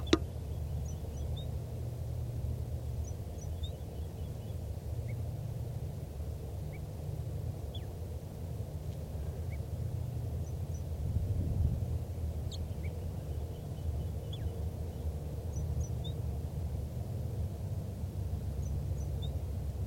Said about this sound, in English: Start recording again, that wild bird in soft song.